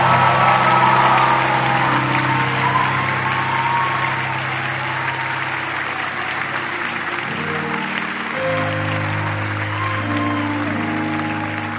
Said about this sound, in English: Praise the Lord. Give him clap offering. Worship his name.